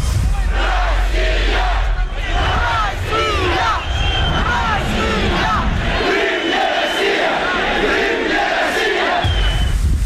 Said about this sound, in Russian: Народу было много. Каждый кричал свое. Мы за Украину кричали, они за Россию кричали.